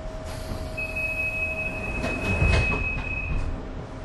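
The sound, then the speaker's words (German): Rumbling interior of a moving U-Bahn subway train in Munich, riding out to the Olympic Village, with a steady high-pitched whine and a lower electrical hum over constant low rumble and rattling, swelling briefly louder midway. No voices. “Nun verlassen wir sein Büro und fahren mit der U-Bahn raus ins Olympische Dorf, das heute zu den beliebtesten Wohngebieten Münchens gehört.”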